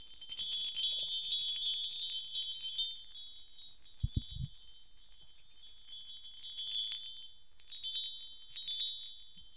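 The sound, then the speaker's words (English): Delicate, high metallic chimes tinkle and shimmer continuously inside a small heart-shaped container, rising in brief bright flurries, with a couple of soft low knocks midway; quiet, and without voices. “Have this little heart-shaped container, and inside are these little chimes.”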